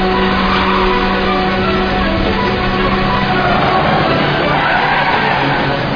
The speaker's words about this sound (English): Bus just cut me off.